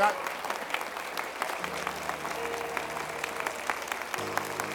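A church audience claps and applauds God steadily, a dense wash of many hands clapping at once, with sustained low musical tones entering underneath partway through.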